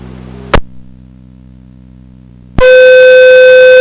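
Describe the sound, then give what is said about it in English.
A sharp click cuts off low static, leaving a steady hum, then a loud, sustained electronic alert tone blares with strong harmonics: a Thursday night fire pager test, not a fire call, sent over a radio channel from the Orin Tower in Fayette County. “not a fire call, not a fire call. Pager test only. Thursday night pager test off the Orin Tower, Fayette County Clear, 1754.”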